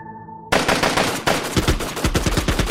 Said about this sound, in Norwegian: Det smalt kraftig. Gjentatte skuddsalver fra flere kalasjnikover ble skutt opp mot himmelen.